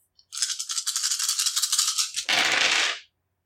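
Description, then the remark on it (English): Dice rattle and clatter in a rapid, irregular burst of bright clicks for about two seconds, ending in a louder, fuller tumble before stopping abruptly, as a player rerolls dice for a defense roll in a game. No one speaks. “So I'll just reroll one of these dice once, because I've only got 8 right here.”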